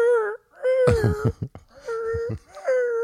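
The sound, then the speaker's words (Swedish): A person imitates the desperate squeaking of a trapped animal standing on its hind legs trying to get out: a few high, sustained whining squeals broken by short gasping bursts, loud and alone with no ordinary talk. “Så går den iväg. Okej. Okay. Och då ställer den sig på baktassarna och vi försöker ta sig ut och piper utav bara helvete.”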